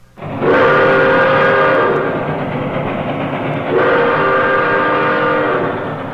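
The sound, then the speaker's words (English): A loud train sound effect plays from a record on a hi-fi, with a sustained horn blast that repeats twice over rumbling rail noise, with no talking. “It's Mr. Melton's hi-fi. He was gonna play a train record for Mom and Dad.”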